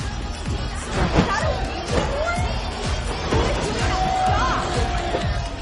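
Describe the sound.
A crowd murmurs steadily at a house party, many overlapping voices blending into a continuous, fairly loud hubbub with occasional louder exclamations rising above the chatter.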